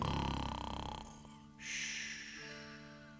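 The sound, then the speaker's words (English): A single loud, buzzy snore of a sleeping donkey: a rattling, rumbling exhale followed by a hissing, breathy intake of air, with no talking. “Donkey snoring.”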